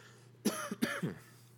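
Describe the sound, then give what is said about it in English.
Two harsh coughs in quick succession, fairly loud, over a faint steady hum, with no talking. “My cough is back, guys, so you're welcome.”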